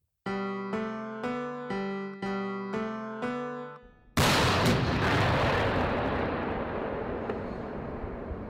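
A short jingle introducing the segment "Das Kanonkanone": six repeated, evenly spaced synth chords build up, then a loud, booming cannon blast erupts and rumbles on as a long, fading roar with crackling debris.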